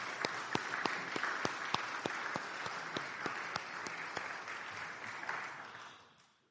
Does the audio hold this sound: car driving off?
no